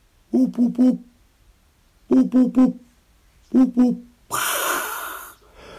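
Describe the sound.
A person standing up in an orchard meadow with nest boxes imitates a hoopoe's call to attract the bird, with soft, low hooting notes in groups of three, three, then two, separated by pauses, followed by a brief breathy rush of noise.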